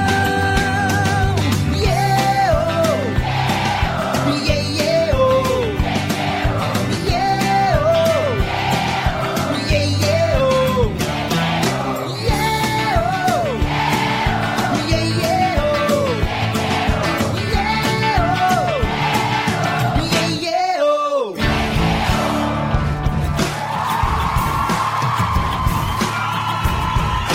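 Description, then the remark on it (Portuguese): A crowd yells and cheers over loud, continuous live music with sung voices. The sound stays dense throughout, broken only by a short dropout before the noise swells again. “quero ouvir a multidão.”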